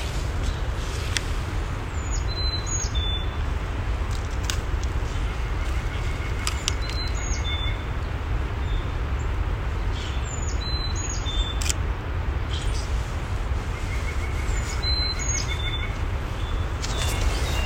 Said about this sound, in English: We're currently walking on the Island Loop Trail, and there are so many birds talking to each other right now.